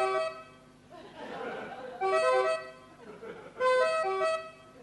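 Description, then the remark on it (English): A voice mimics a two-tone European siren, alternating between a higher and lower pitch in three loud, sung bursts separated by short breathy pauses. “European sirens, they're much more lyrical, like this.”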